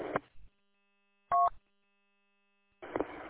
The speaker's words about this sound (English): and I don't know what it is, but some little artifact that the repeater's generating. It's not static or noise, it's actually some sort of digital burst or something it periodically puts out.